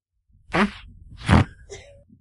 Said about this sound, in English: Guys, you are correct. That was the coot.